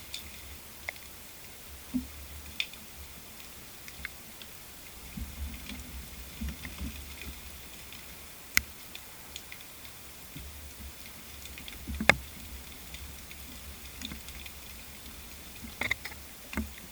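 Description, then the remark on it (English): Heavy rain downpour on a September morning in Oilgate, heard as scattered drops tapping and ticking irregularly over a low, steady rumble, fairly quiet overall, with faint high chirps from birds in the far distance. “You can clearly hear rain. It must have been a big downpour that morning, and birds in the far distance on that day.”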